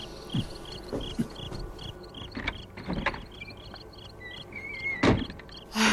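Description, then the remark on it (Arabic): A house door is pushed shut and locked, with a few dull knocks and a firmer thud near the end, followed by a latch click, while crickets chirp steadily in the background. “طيب أين أنت ذاهب يا حاج؟ لأغفل باب البيت.”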